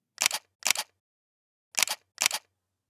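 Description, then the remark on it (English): Crisp camera shutter clicks fire four times during a photo shoot of a posing model, arriving as two quick pairs separated by a short pause, loud and sharp with nothing else audible between them. “This is why I love shooting you. I feel like I have... The camera has this connection with you.”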